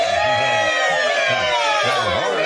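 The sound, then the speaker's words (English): An excited crowd of elves with high, squeaky voices cheering and shouting together, loud, a continuous jumble of whoops and chatter with no single voice standing out. “Settle down. Settle down. I know you're elves, but settle down.”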